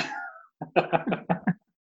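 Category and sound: human body sound, cough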